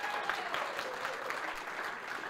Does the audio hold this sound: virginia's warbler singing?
no